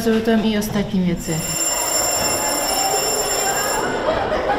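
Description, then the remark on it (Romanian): A shrill electric school bell rings continuously for a couple of seconds, signalling recess, over a busy, noisy background, with voices heard briefly just before it starts. “Sună la recreație, iar migrația dispare din centrul atenției.”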